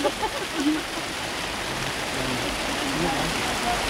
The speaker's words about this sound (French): Ah, il y a des fuites. Des petites fuites. La vengeance de la pluie.